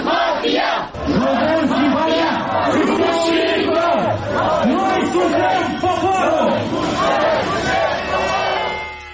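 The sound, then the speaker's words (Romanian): A large crowd of street protesters in Chișinău, Moldova, chants and shouts together in a dense, continuous roar of many voices, the rhythmic calls rising and falling steadily throughout, during demonstrations for and against changing the electoral system. “Deși fusese anticipat, votul din Parlament a provocat o furtună politică în Chișinău, unde au avut loc demonstrații pro și contra schimbării sistemului electoral.”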